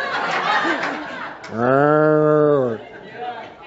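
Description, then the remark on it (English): A person imitates a cow, letting out one long, steady, harmonic moo lasting about a second, preceded by background chatter and light laughter that continue faintly afterward. “You guys are going to make me moo again.”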